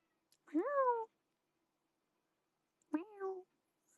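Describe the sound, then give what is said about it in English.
Two loud, drawn-out meows about two seconds apart, each rising then sliding down in pitch, with quiet between them and no talking. “I mean, I'm also meowing, but I think he was like screaming”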